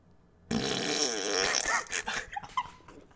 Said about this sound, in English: See that? I lit my fart on fire.